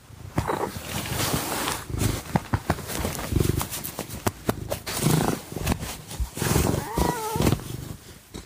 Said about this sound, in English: And I threw in a little audio of Jesse purring at the end of this clip, too.